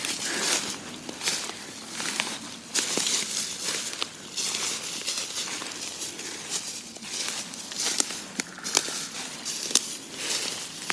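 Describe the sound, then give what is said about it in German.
Footsteps crunch and swish through deep, dry fallen leaves in the Windener Wald forest, a steady dense rustling with sharper crackles at each step, continuing throughout with no voices. “So, wir kämpfen uns hier weiter durch den Windener Wald, durchs hohe Laub, was hier überall verteilt liegt.”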